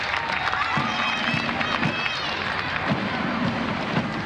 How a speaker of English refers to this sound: But they get a big hand. Oh, don't they? Let's listen to that hand.